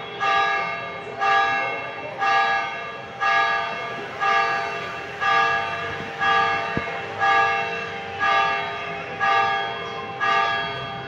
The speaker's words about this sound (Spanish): Cada vez que tocan las campanas en la placita que nos coja, nos callamos. Porque es maravilloso.